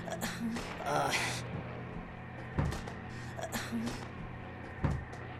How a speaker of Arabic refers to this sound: الباب لا يفتح.